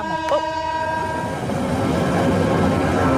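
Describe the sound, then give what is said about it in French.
A train passes on a heavily used railway line with very fast trains: a sustained horn tone fades in the opening second, giving way to a loud, steady rumble of rolling wheels that builds and continues to the end. “Mais oui, on va s'arrêter, il y a un train. On entend le train.”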